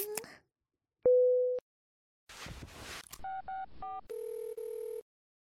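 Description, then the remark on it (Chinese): Clear phone sounds as a phone call is placed: a short tone, a brief rustle of noise, a quick run of keypad dialing beeps, then a steady ringing tone that pulses in even bursts. No one speaks. “知道了，我一会儿就给他打个电话说晚点回去。”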